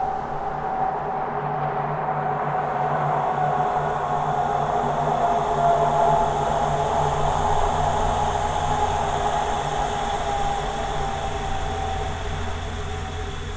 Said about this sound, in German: Es ist tatsächlich so hier in Dautenheim-Alzey mit dieser Autobahn, die rumläuft die ganze Zeit. Das ist eigentlich die Stille hier.